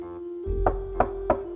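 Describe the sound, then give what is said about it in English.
Three evenly spaced metallic knocks from a door knocker rap out at a steady pace over a low, constant hum, moderately loud. “A door knocker.”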